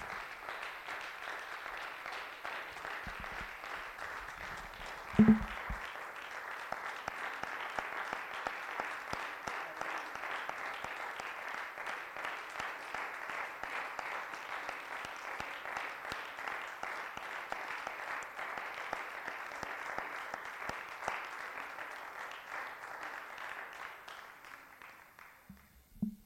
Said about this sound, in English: And I think it's right that we would applaud those who have paid the ultimate price in doing what they've done and giving their life for our freedom.